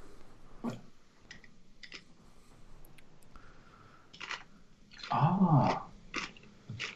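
Peanuts being crunched while eating: a handful of short, irregular crunchy bursts, with one louder, rougher stretch in the middle that carries a low groaning tone. No one speaks.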